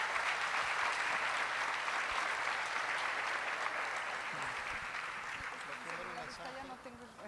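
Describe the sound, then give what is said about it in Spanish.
A crowd claps steadily in dense, sustained applause welcoming the speaker's wife, who is to share a message, that gradually tapers off, and a voice begins speaking over the fading clapping near the end. “Así que vamos a recibir con un aplauso a mi amada esposa que va a compartir este mensaje.”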